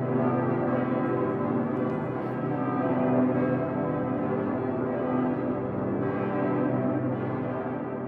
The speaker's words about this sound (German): dann läutet der Decke Pitter mit seinem tiefen C. Nach und nach setzen schließlich die übrigen Domglocken ein. Und zu ganz besonderen Anlässen gesellen sich sogar die drei Kleinen im Vierungsturm hinzu, sodass dann insgesamt 11 Glocken zu hören sind.